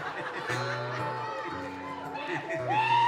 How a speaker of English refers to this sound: That rebel yell over there got me excited.